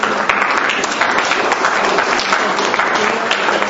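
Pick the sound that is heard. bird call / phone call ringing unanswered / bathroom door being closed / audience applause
audience applause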